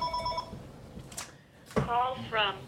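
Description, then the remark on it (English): A telephone that was left plugged in rings with a short, bright electronic trill at the start, then fades out. Moments later a voice comes in, loud and animated. “I didn't unplug the phone.”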